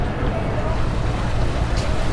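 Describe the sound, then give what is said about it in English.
A big pontoon boat's deep, steady engine rumble churns on the water as it approaches, a loud, continuous low drone that holds even throughout. “Can you hear the water? Yep. Hear the wire coming? Is that it? Yeah. That's the boat, folks.”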